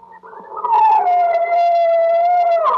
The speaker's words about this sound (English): That's the howl of coyotes. You don't really hear that on Fifth Avenue very often, but you do hear it out west.